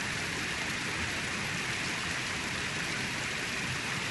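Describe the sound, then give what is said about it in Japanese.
A waterfall with considerable water pressure pours in a steady, unbroken roar, a dense hissing rush of water that holds the same strength throughout, with no voices or other sounds. “音の強さでわかる。滝の水圧は結構ある。”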